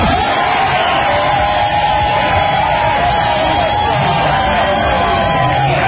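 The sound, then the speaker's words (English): A packed sports bar crowd roars during the second half of a game, a loud, continuous wall of cheering voices with scattered shouts and whoops rising out of the din. “It's new RJ Bentley's. Quite a spirited crowd.”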